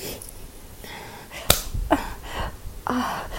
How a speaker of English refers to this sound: What did you slap my boob for?